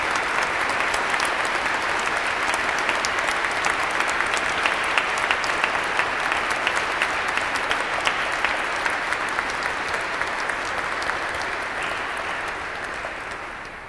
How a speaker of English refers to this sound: So I'm going to ask your parents, your mom, to please stand up. Give them a round of applause for their generosity to the church.